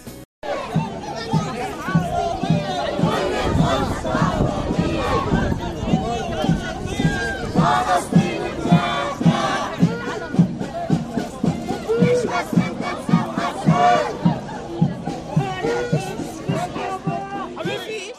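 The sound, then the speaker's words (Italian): A large crowd of Palestinian demonstrators in Jerusalem shouts and cheers in a dense, continuous roar, with many overlapping voices and sharp rhythmic bursts of chanting, at a protest held at the same time as the embassy ceremony. “La manifestazione inizia proprio contemporaneamente alla cerimonia dell'ambasciata.”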